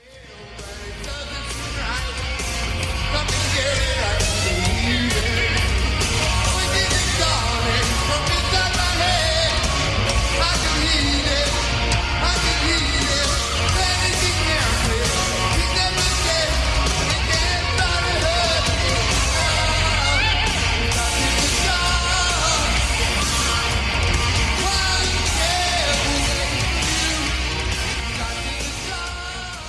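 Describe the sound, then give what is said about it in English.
A live rock concert recording: a loud, dense wall of band sound with heavy low end, sustained at full volume for about thirty seconds, with shouted vocals and crowd noise mixed in. “I want to play a little bit of …, though.”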